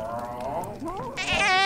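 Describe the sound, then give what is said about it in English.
A person vocally imitates a giant cat hacking and retching as it spits up a blemish, a strained, wavering, bleat-like sound that rises into a louder, raspier burst at the end, alone. “Oh, it's spitting up a blemish.”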